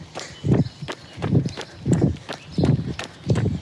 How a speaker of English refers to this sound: I'm really enjoying, by the way, the amount of you who say you like my footsteps are calming. It's really nice to hear, because it's not something I would typically, you know, be not even aware of